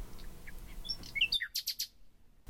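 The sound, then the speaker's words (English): Birds chirp and twitter outdoors, scattered high notes over a soft background hiss, ending in a quick run of three or four bright, clear chirps. “So the meditation is important to help you come back to the present, live in reality where the birds are singing.”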